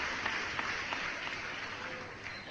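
Steady applause from a small group, a dense wash of clapping with a few sharper claps standing out, sustained at an even level throughout without any voices.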